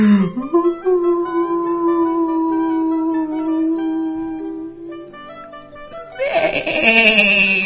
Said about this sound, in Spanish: Baló la oveja.